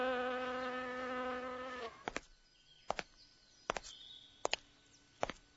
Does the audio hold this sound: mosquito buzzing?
yes